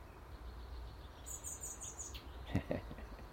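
A blackbird fledgling that has come down to be fed by its mother gives thin, high-pitched begging calls in a quick run of repeated notes over a low steady rumble, followed by a couple of soft thumps.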